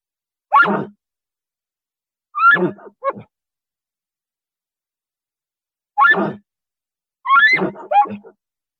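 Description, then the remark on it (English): A person imitating an elk alarm bark, the call a cow or bull elk gives when it sees or smells something, to alert the herd: about five short, harsh, raspy barks in irregular bursts, some in quick pairs, separated by silent gaps, fairly loud with no talking. “Can do an alarm bark, which is when the cow elk or bull elk are, they just see something or they smell something and they're trying to alert the herd.”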